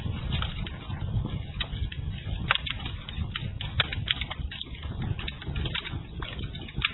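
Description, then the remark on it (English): A crackling fire snaps and pops in irregular bursts of sharp clicks over a steady low, rushing rumble, heard on its own without any voices. “Oh, listen to that crackling fire.”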